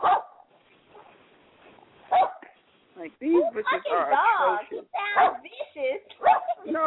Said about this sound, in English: No, that's it's probably little, a little bitty my, dog, too. That's my little dog sitting here. Told you. Little dogs is all bark.